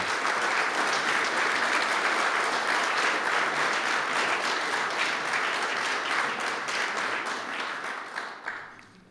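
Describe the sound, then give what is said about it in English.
An audience applauds to recognize the people doing the work, steadily for about eight seconds, a dense, even patter of many hands clapping at a loud, constant level before tapering off into a few last claps. “So now you can recognize, you can give them a big, you know, applaud those who are doing this.”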